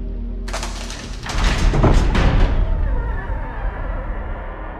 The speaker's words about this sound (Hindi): अचानक दरवाजे पर आहट हुई और दरवाजा खुल गया।